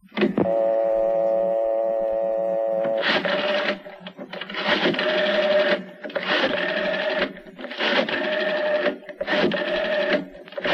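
A steady tone holds for a few seconds, then a telephone is dialed to call the shop in a run of clicking, buzzing bursts separated by brief pauses, loud, with no talking.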